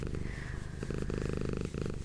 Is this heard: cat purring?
yes